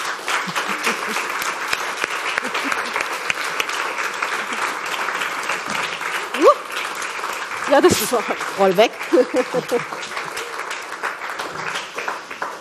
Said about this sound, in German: Und ich würde sagen, jetzt holen wir sie auf die Bühne. Mit einem warmen Applaus, bitteschön.